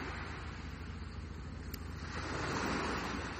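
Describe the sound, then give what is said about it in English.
Gentle waves ripple and lap softly at a sandy shore in a steady, continuous wash, swelling slightly louder toward the end, with a faint low rumble underneath and no voices. “It's just like a little whisper, a little ripple, not like our Pacific or Atlantic or even the UK coastal channel.”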